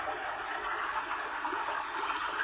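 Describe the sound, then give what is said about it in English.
Water of a forest stream flows steadily over stones in a continuous, hissing, gently bubbling rush, like a brook running without pause. No voices are present. “Let's follow the babbling of the brook.”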